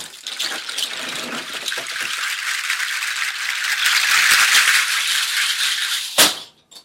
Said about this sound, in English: I play just like a bunch of seed pods.